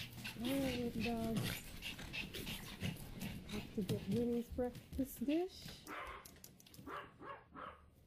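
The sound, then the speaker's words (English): Several small Pomeranian dogs whimper and yip in high, wavering whines and short barks, overlapping excitedly while a woman speaks over them, at Woodstone Burrow Animal Sanctuary, a home in southern Illinois. “I have 5 Pomeranian dogs.”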